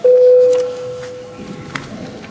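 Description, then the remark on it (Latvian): A parliament voting bell, rung before a vote on a deputy's proposal, sounds as one steady, mid-pitched electronic tone that starts loud and fades out over about a second and a half, followed by faint rustling and murmur. “Paldies, lūdzu zvanu.”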